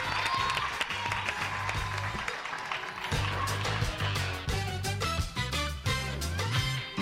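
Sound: applause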